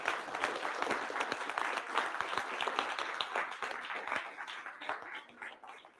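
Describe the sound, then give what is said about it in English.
Sustained applause for veterans from a large audience at a church service, dense overlapping claps at a steady level for several seconds before thinning slightly toward the end. “And can we give them another round of applause?”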